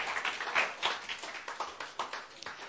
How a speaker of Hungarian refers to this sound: Köszönöm szépen. Leülhettek. Adjunk egy nagy tapsot.